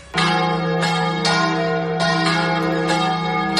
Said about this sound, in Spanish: Veremos cómo se comporta el tiempo de esta tarde de Jueves Santo, en el que, como siempre, dejamos de escuchar las campanas de las iglesias madrileñas.